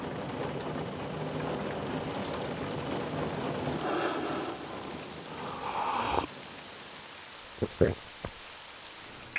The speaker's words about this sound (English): Rain. Beating on the streets.